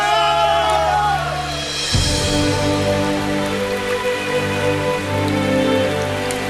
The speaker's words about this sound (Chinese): 啊，我好像听到雨声啊。 哎，真的下雨了，下雨了。